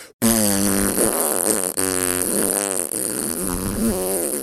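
A long, continuous fart rasps on for several seconds, loud, with a buzzing, wavering pitch and only a brief catch partway through before it keeps going.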